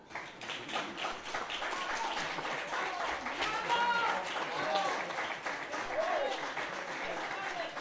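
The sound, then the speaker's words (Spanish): A crowd applauds steadily for about eight seconds, a dense patter of many hands clapping at even loudness, with a few voices calling out faintly in the middle. The applause is at the SNAC de Parque Sur during Ecoleganés' storytelling program Escribir Adrede, for an author being honored. “Un aplauso.”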